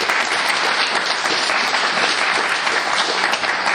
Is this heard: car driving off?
no